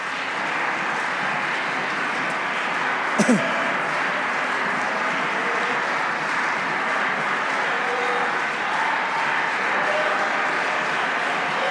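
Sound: audience clapping hands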